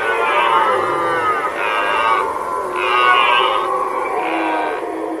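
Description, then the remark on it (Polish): A human caller imitates a red deer stag's roar to lure deer: a loud, rough, harmonic-rich bellowing sound in about three long, groaning phrases with short breaks between them, with no talking. “od kilku lat w sumie zajmuję się trochę wabieniem tych jeleni”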